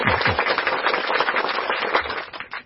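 An audience breaks into sustained applause, many hands clapping in a dense, crackling wash that holds steady for a couple of seconds before starting to fade.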